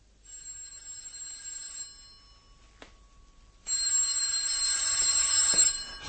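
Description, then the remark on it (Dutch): A telephone in a room at the New Wilton Hotel in Park Lane rings with bright, bell-like trills, a brief ring, a pause with a short click, then a louder, sustained ringing burst with no talking. “En ik wilde net gaan douchen toen de telefoon ging.”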